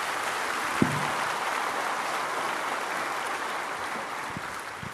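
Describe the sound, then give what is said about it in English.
Steady applause from a large audience at the Harvest Christian Fellowship church in Riverside fills the whole stretch, a dense, even wash of many clapping hands that holds at a fairly constant loudness and tapers only slightly toward the end. “So listen, yeah, that's worth clapping for.”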